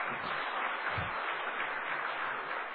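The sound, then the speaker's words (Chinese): A church audience applauds steadily to encourage a woman after she shared her testimony, many hands clapping at once in a dense, continuous patter that holds at an even level throughout, with no voices over it. “咱去变热烈掌声给鼓励吼，多谢伊。”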